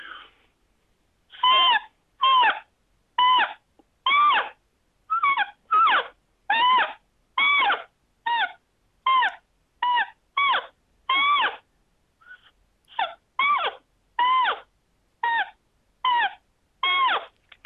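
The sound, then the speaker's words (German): A rapid series of short, reedy tones blown on an ordinary small piece of notepad paper, about twenty squawking notes with bending pitches, like plaintive animal cries, played in a quick, uneven rhythm with no talking. “Ich versuche mal, ob ich hier noch ein paar Töne entlocken kann. Wir haben hier zwar keine Bilder, aber ich garantiere Ihnen, es ist Papier.”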